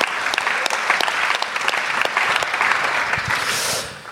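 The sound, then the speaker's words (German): Steady applause from a crowd, a dense crackle of many hands clapping at an even loudness for about four seconds, with no one speaking over it. “Ja, genau, Applaus.”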